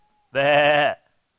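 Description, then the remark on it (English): A single drawn-out "baa" imitating a sheep's bleat, voiced loudly by a person and lasting about half a second, with quiet before and after. “Bah. Anybody else? Bah. Yeah, we're the sheep, okay?”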